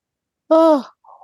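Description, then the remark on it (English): A single drawn-out yawn from a person: a voiced exhale that slides downward in pitch and fades after about half a second, followed by a faint breathy trailing sound. “Well, I got you yawning.”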